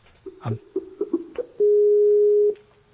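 A Skype outgoing call ringing tone: a few short electronic beeps give way to one long, steady, loud tone lasting about a second, then silence. No one speaks.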